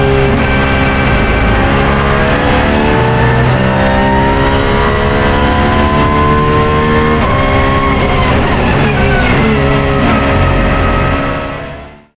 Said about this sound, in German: Ja, beeindruckender Sound. Sag was gerne dazu. Ja, die Leistung 620 PS, 4,2 Liter Motor, ich glaube 9400 Umdrehungen, das ist einfach Musik.